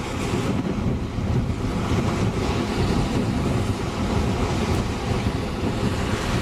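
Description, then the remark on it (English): Rough ocean surf churns continuously while strong wind buffets the microphone, a loud, dense roar with no pauses and no voices. “You see the waves are quite boisterous.”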